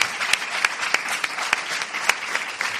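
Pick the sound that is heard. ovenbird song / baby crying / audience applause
audience applause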